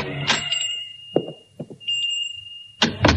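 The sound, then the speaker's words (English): A pawn shop door in the oldest part of the city is pushed open with a clunk as a small bell rings steadily above it, followed by a few soft knocks and a heavier thud closing things out. “On a sudden impulse, he pushes open the door and goes in.”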